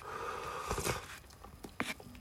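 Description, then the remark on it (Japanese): Soft, wet chewing of wonton soup with fluffy egg: a cluster of moist crunchy bites early on, then a brief slurping burst, all fairly quiet over a low steady background, with no talking. “咀嚼音がしますのでご注意ください。”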